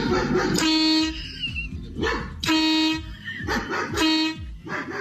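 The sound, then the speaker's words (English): A neighbor's dog barks repeatedly, and three loud horn honks blare in rhythm with the barking, set off each time the dog barks by a homemade invention, the Dog Zapper 2000, overlapping the yaps in a noisy, chaotic back-and-forth. “I mean, I roll over in my bed in my own room in my own house, and this damn dog barks at me.”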